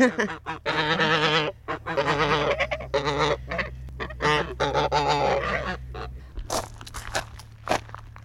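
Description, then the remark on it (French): A flock of white Toulouse geese, waiting to be fed, honks loudly and repeatedly, harsh nasal calls overlapping in rapid bursts, with a steady low rumble underneath and no talking. “Alors, vous venez d'entendre les oies. Les belles oies blanches de Toulouse.”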